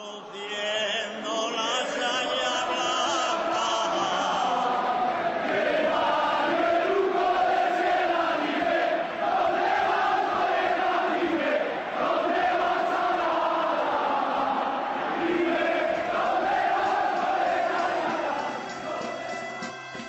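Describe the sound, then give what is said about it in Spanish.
A large stadium crowd at El Sardinero sings the football anthem Fuente de Cacho together, a loud, steady wall of massed voices carrying a slow, swelling melody from start to finish with no speech over it. “Colsa vivió días gloriosos en los que en el Sardinero se escuchaba un himno inmortal, Fuente de Cacho.”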